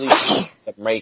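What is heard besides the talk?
sneeze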